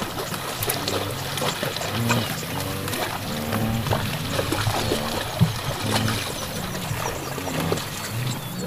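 Zebras wade and splash through shallow water near the shore, a steady churn of sloshing hoof-falls and trickling water, with occasional faint animal calls and no one speaking.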